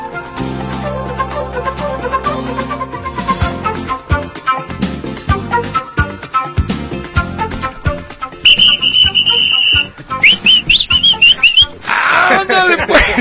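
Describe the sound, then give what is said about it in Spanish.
After a busy stretch of music, loud, piercing human whistling cuts in: a long steady shrill note, then a few warbling, sliding whistles. “Yo no sabía que chiflas muy fuerte.”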